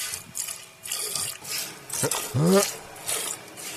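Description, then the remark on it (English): Rhythmic hissing squirts of milk stream into a pail as a cow is hand-milked at the Indiana State Fair, several bursts in a row, with a brief low voiced sound partway through. “This is him, like, starting out slow, and he opens up the milk like the Nile. Like, it comes out like a river.”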